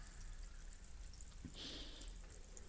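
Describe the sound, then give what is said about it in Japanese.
Carbonated water is poured to rinse off carbonated shampoo, then a short bright hiss of fizzing bubbles lasts about half a second. It's quiet and set against a steady low background hiss, with no talking. “炭酸シャンプーを炭酸水で流して。”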